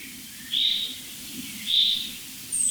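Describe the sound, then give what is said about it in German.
High, thin alarm calls of small birds, three bird species involved, ring out in short bursts, three in quick succession, over a soft low rumble. No one speaks. “Also das ist jetzt für mich eindeutig so ein Alarmmuster jetzt. Es sind immer drei Vogelarten interessiert.”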